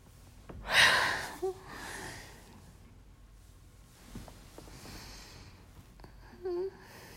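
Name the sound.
yawning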